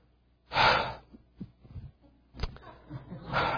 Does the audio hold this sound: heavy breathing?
yes